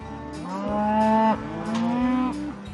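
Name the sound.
cows mooing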